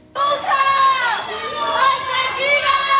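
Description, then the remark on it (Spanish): An angry crowd of local residents gathered at the courthouse doors shouts loudly and continuously, calling out "murderer" and demanding he be put in prison, many raised voices overlapping in a sustained, chanting clamor that bursts in abruptly and stays intense throughout. “Esos gritos de asesino, que lo metan en la cárcel, pedían los vecinos que se han concentrado a las puertas del juzgado.”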